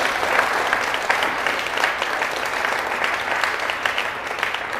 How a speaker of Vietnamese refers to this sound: Trước khi vào phần này thì tất cả các con hãy cho một tràng vỗ tay thật là lớn để tán dương mạnh thường quân.